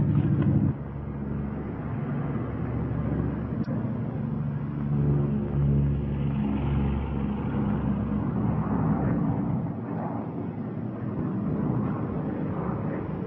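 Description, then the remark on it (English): A propeller airplane flying with one engine quit drones steadily and fairly loudly for the whole stretch, a rough, low engine hum with slight wavering. No one speaks. “Hey, one engine's quit. You still got another engine.”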